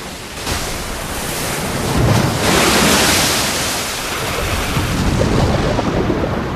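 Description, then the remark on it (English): Loud, churning surf crashes against jagged rocks on the coast as a hurricane approaches, a continuous roar of breaking white water that swells around the middle, with gusty wind buffeting the microphone and no voices. “White water breaking over jagged rocks.”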